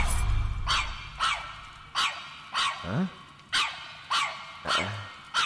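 animal, dog barking and growling

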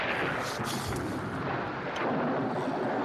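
nature, thunder

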